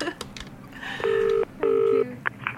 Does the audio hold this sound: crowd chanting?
no